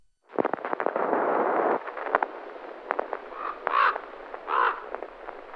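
Ravens croak harshly and hoarsely over a lake on a grey, misty, damp day with no rain and no wind, a couple of loud croaks standing out from a steady background hiss, with several shorter calls. No one speaks.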